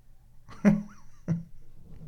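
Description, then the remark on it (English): Two heavy thumps about half a second apart, dull and bass-heavy, from a cat thumping up and down the stairs, with a faint high whine in the background and no talking. “This is the cat thumping up and down the stairs.”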